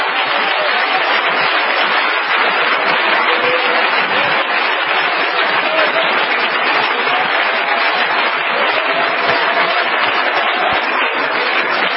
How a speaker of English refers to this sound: Why don't we give the Lord another hand clap of praise?